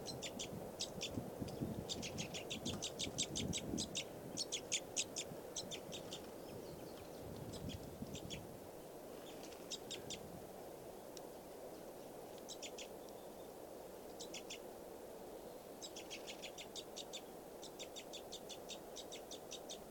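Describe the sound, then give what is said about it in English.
Repeated bursts of high, rapid chirping calls from a bunch of birds flying in to a tree come in clusters over a steady low rumble of outdoor background noise, with no talking. “I think it did just get fed, and that just flew with a bunch of birds to the high part of another tree.”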